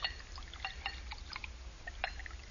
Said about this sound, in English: Here, I'll pour us a toast.